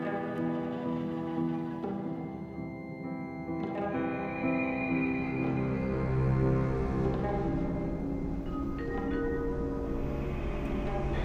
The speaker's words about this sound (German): Geschätzte Fahrgäste, wir treffen in Bern auf Gleis 5 ein. Aufsteigezeit in Fahrrichtung rechts. Ich fahre nach Bern.